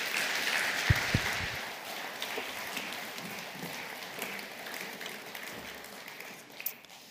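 An audience applauds a speaker who has just finished talking, a dense wash of many hands clapping at a steady, moderate level that gradually thins and softens toward the end, with a few sharper claps standing out.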